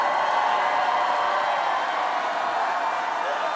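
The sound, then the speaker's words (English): A large crowd of about 3,000 supporters cheers and shouts in a steady, loud roar welcoming Kamala Harris at the first campaign stop of her 2024 presidential bid, with whoops and voices blending into a continuous wall of noise that holds from start to finish. “In this, the first campaign stop of her 2024 presidential bid, candidate Harris gets an energized welcome from an enthused crowd of about 3,000 supporters.”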